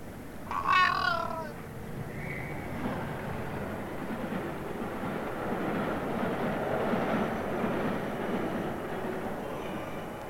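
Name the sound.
train passing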